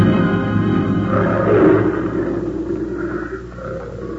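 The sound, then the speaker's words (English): Deep, rumbling big-cat roars and grunts at night, with a tiglon, a cross of a tiger and a lion, making most of the noise, rise and fall continuously, loud and low-pitched with a rough, throaty texture, and no one speaks over them. “Them cats are sounding off tonight.”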